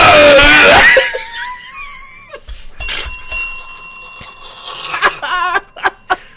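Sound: bell ringing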